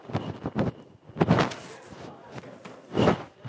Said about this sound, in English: let me shut this door here because they're going to get louder in a second. I can't stand people being louder than me.